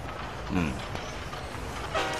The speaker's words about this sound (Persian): قطار اومد.